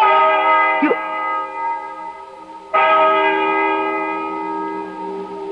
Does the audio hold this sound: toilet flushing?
no